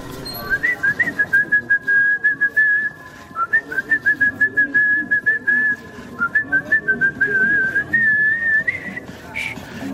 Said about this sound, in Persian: مقداری در سکوت راه رفتیم تا اینکه شروع کرد به سوت زدن.